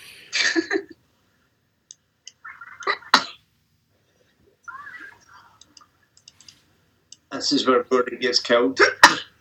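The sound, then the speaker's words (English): A single abrupt sneeze bursts out partway through, short and fairly loud, with people talking before and after it. “Bless you.”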